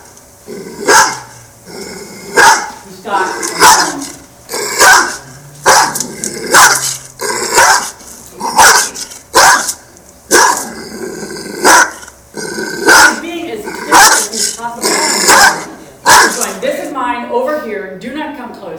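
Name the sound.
dog growling and barking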